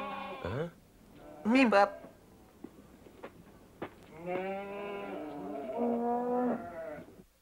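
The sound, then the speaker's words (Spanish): A cow moos several times while a man milks it: a short low call, a brief higher cry, then a long, drawn-out moo that wavers in pitch before fading. “Ese hombre solo ordeña una vaca.”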